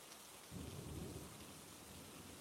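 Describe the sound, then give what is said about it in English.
Steady heavy rain hisses across the whole clip, with a deep rumble of thunder swelling in after about half a second and slowly fading back into the downpour. No voices. “Even when it's pouring.”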